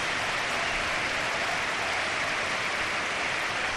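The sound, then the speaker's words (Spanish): The San Mamés stadium crowd stands to give a sustained ovation to first-goal scorer Adama Boiro as he is substituted by Íñigo Lecue, a dense, even wash of clapping and cheering that holds steady at full strength for the whole stretch, with no voices rising above it. “Ahora me contestáis, pero vamos a escuchar la ovación para el joven.”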